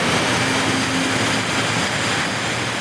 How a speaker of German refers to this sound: Die Hose, es sieht auch nach einer alten Feuerwehrhose aus, fängt an zu zittern, weil ein kräftiges Gebläse Luft reinjagt. So laut, dass wir für einen Moment nicht mehr reden können.